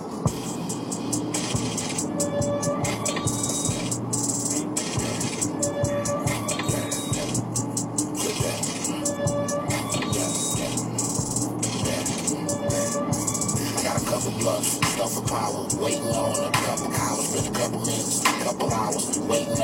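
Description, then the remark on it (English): A full, dense song plays on air continuously at steady loudness, with a driving rhythmic pulse and thick low end filling the whole stretch, no talking over it. “All right, and this is the song.”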